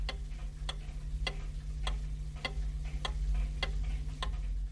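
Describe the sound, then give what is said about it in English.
A mechanical clock ticks steadily, about eight crisp, evenly spaced ticks in a slow, regular rhythm, clear over a low, constant hum. “With the growth of European cities and the rise of craft industries, a more ordered society was coming into being, ticking to the sound of the mechanical clock.”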